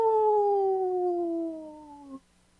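wolf howling

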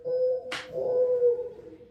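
mourning dove call

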